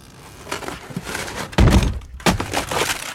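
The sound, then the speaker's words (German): A series of heavy wooden thuds and crashes, with a loud splintering impact midway followed by another sharp crack, as Benjamin Blümchen the elephant smashes and breaks the expensive door of a costume rental shop. “Herr Blümchen, Sie haben meine teure Tür ruiniert.”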